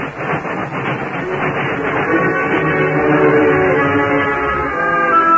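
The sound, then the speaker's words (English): A steam train rolls past with loud, steady rhythmic chugging and a dense rumble, clanking mechanical tones building and sustaining through the end. “Oh, but look, Tonto. Look at that train.”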